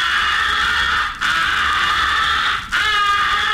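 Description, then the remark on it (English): A crow call, muffled by a finger placed into its muzzle, sounds in three long, steady, reedy blasts separated by two brief gaps, loud and sustained with a buzzy, nasal tone and no talking. “muffle your call by placing your most convenient finger into the muzzle.”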